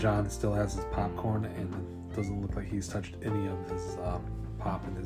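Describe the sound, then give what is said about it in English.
A pet cat cries in the background, its drawn-out wails rising and falling beneath a man's steady narration that continues throughout. “If you hear that crying, that's my cat Gomez in the background.”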